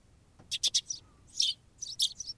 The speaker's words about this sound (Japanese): チュンチュンと鳴くスズメの鳴き声も赤子の鳴き声に聞こえてきて仕方なく